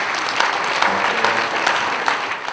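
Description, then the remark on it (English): A crowd gives a round of applause to the entire workforce of First Bank, dense clapping from many hands at a consistent, fairly loud level with no one speaking over it. “Shall we give a round of applause to the entire workforce?”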